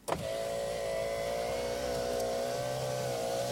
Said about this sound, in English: I started the car. I just wanted away from there.